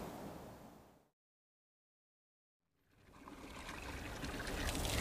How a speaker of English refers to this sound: Tap here. See? Fresh drinking water.